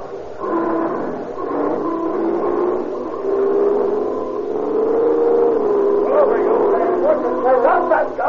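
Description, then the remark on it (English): A car engine roars steadily, its pitch climbing and surging as it accelerates hard, with a faint dog-like yip or horn briefly rising over the motor near the end. “That gray Ford Roadster turning north into Alvarado. Still at the gun.”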